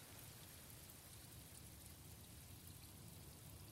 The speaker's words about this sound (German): Regen.